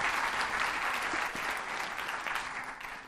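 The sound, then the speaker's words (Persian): A crowd claps steadily for about three seconds in applause for the coach, a dense, even patter of many hands at moderate loudness with no voices standing out. “مرسی کوچ، تشویقشون کن باشتون.”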